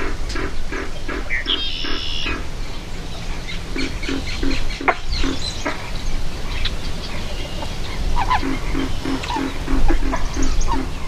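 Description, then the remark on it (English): Big mottled male pig frogs croak for mates in a marsh in the morning, a dense chorus of deep pig-like grunts repeating in quick rhythmic bursts from several animals at once, steady throughout, with faint higher calls in the background. “On this morning, these big mottled males are thinking nothing of their culinary desirability, but only of their sex appeal as they croak for mates.”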